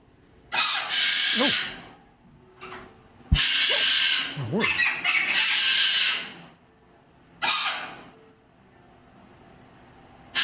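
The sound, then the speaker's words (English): Harsh, raspy squawking from three pet birds erupts in loud, overlapping bursts, with a long chaotic stretch in the middle and brief pauses between outbursts. “When Curtis arrived, all hell broke loose because it's not just Curtis, it's Ginger and the third bird. This is what it sounded like.”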